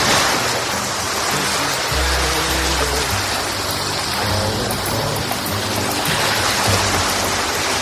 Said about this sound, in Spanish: Ahí quiero estar yo. Ahí quiero estar yo, ahí en la orillita, con las olas, mojándome los pies, la arena, sí.